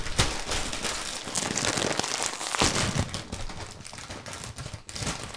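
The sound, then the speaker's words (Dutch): The paper wrapper of a flame grilled Whopper burger being unwrapped and crinkled, a steady run of dense crackling and rustling for several seconds, with sharper crisp bursts now and then and no voices. “ik ga hem openmaken.”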